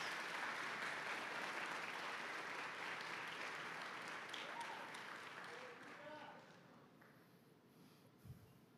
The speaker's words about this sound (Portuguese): Isso, dá um aplauso, ele merece.